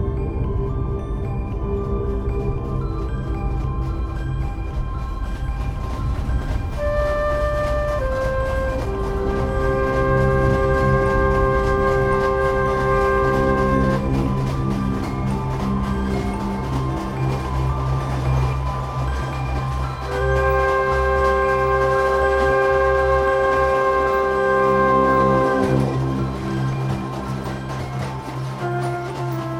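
A train races through the countryside with a constant loud, low rumble, while long sustained tones rise and fade over it in two stretches. No one speaks.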